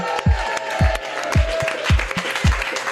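Applause and crowd noise from an audience at a live pop-up DJ event, applauding DJ Ottavio as he ends his set, over a steady, booming dance beat with heavy kick drum thumps landing about twice a second throughout.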